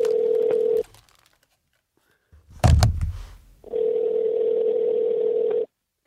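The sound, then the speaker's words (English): A phone line's ringback tone purrs twice, a steady electronic buzz that cuts off and returns after a pause, with a brief handling thump in the silence between rings. “It's ringing.”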